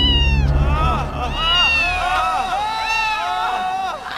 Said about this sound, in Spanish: Doña Gata Vieja trinchó por la oreja al niño Ratico maullándole